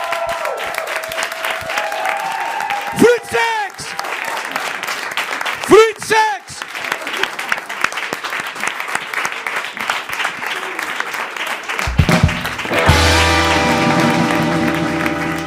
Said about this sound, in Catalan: Un aplaudiment per ell.